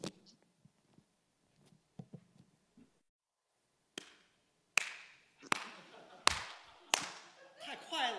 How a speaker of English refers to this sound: And they start clapping next to you. You're like, I'm practicing, mom. Why are you clapping next to me?